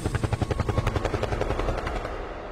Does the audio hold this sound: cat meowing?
no